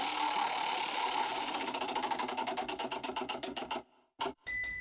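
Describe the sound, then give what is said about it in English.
A game show prize wheel, spun by a contestant in a Bueller Air Conditioning commercial, spins with loud, rapid clicking that gradually slows and spreads out until it stops, followed by a brief thump and a bright ringing chime. “Go ahead and spin the wheel.”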